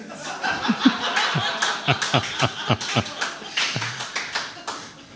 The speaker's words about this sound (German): das sind deine Lacher, dein Applaus, falls du das hörst.